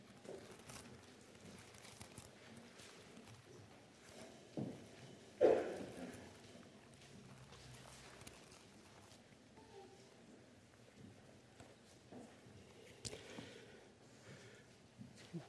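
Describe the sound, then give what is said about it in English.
Many Bible pages turn at once as an audience looks up Revelation chapter 1 in their own or pew Bibles: a faint, continuous rustle of overlapping papery flicks and shuffles, with one louder crisp rustle early on and no one talking. “While you're turning there, I love to hear the sound of the pages turning because it tells me that you either have your own Bible or you took one of the pew Bibles and are looking for yourself to see what the Scripture says.”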